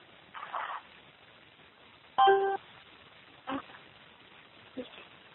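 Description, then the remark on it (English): A short, loud burst of electronic telephone keypad tones, dialing star six to unmute a phone on a call, sounds midway, with a few brief, muffled bumps and rustles before and after over a quiet, hissy phone-line background. “David Turk from the United States State Department, can you *6 your phone to unmute yourself?”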